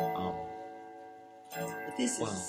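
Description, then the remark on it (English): A clock chimes with a few bright, bell-like strikes, each one ringing out in a rich sustained tone that hangs and overlaps with the next. “I'll probably ask you to say that again after this is done chiming.”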